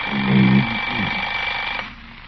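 alarm clock ringing

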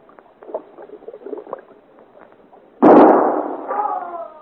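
gunshots fired

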